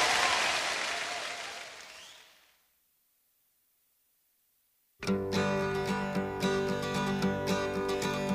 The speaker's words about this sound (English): Give yourself a hand.